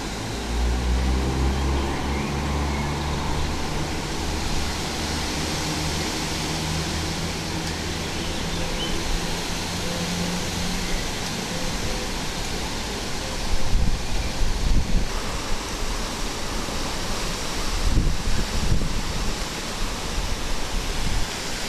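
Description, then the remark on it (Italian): A strong bora wind in Trieste roars steadily, a dense buffeting rush that surges into louder gusts a couple of times toward the end. No one speaks. “Ascoltate, questa è la famosa bora di Trieste.”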